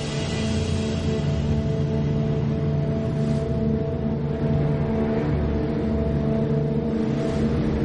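Heavy landing craft engines drone and rev steadily throughout as the landing craft are launched, a loud continuous low rumble with sustained tonal hum and slight surges, with no voices.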